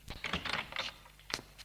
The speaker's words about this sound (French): Le jeune ouvre la porte de sa chambre.